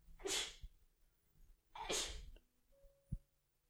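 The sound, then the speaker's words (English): Two loud sneezes about a second and a half apart, each a sharp explosive burst of breath, followed by quiet with a faint thump. “Bless you.”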